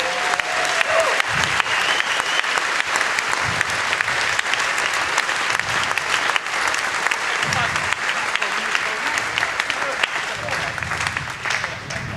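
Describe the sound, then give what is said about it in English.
A crowd applauds a team, clapping steadily for about twelve seconds, a dense, even wash of applause that stays loud throughout, with faint voices and a few whoops mixed underneath. “A big applause for them.”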